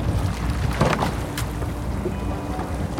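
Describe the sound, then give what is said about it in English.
A rowing boat rowed by a blind woman moves through water with a steady wash of splashing and wind, broken by a couple of brief sloshing surges like oar strokes. No voices are heard. “It's the only time in my waking hours that I can forget that I'm blind is when I'm in a boat rowing, because it's all about the feel, the sound.”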